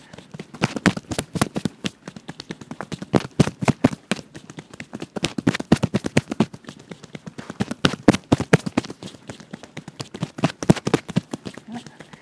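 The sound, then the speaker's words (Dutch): Rapid, steady tapping of hands gently patting on the upper chest to loosen the tops of the lungs, dull thumping beats in quick uneven bursts that continue for the whole stretch at moderate loudness. “kan je ook heel rustig je longtoppen wat loskloppen.”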